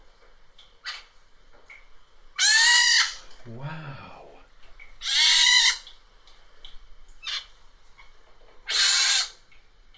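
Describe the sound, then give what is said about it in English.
Baby pine martens in a house attic give three loud, high, raspy squealing calls, each lasting about a second and spaced several seconds apart, with a person briefly exclaiming between the first two; recorded on a phone around mid-May. “Baby pine martens. She had a whole family in her attic.”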